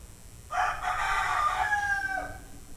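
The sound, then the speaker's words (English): A rooster crows once, a loud, drawn-out cock-a-doodle-doo lasting about two seconds that trails off with a falling, wavering tone, with a low background rumble and no talking. “And there's that rooster's.”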